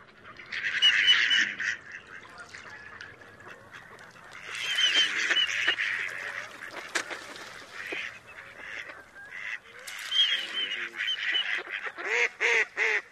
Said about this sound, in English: Yeah, the classic quack, quack, quack is just the females. So let's hear some male courtship whistles from the mallard.